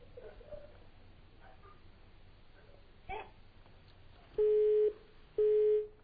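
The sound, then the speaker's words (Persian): After a stretch of faint line hiss, a telephone busy signal sounds: two loud, steady half-second tones separated by an equal pause, the repeating beep after a call from a caller in Malayer was cut off. “خب مثل این که ارتباطمون قطع شد و حالا بچه ها اگه تونستن دوباره این ارتباط برقرار بشه میتونیم صدایشون رو هم بشنیم.”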